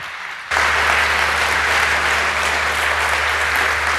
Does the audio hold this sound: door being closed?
no